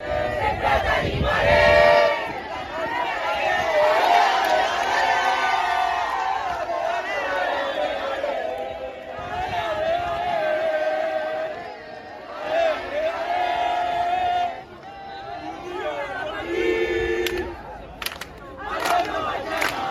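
A large crowd of football fans, waiting for the team bus an hour before the Barcelona versus Wolfsburg semifinal, chants and sings loudly and steadily, voices rising in rhythmic surges with whoops and shouts, the roar continuing without pause throughout.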